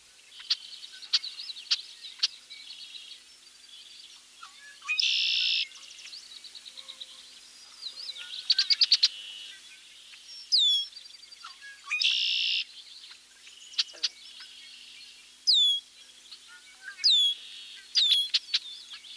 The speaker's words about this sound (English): Also listen for a chuck note, as well as a high-pitched sear, sear. Now let's hear a medley of red-winged blackbird vocalization.